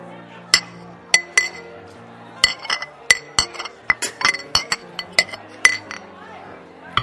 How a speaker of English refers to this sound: That was the drunkest glass clinging I've ever heard.